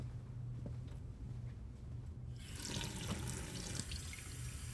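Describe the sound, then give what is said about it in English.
A low hum gives way, about halfway through, to water gushing steadily from a tap into a glass, continuing to the end with no one speaking. “Just a glass of water, please.”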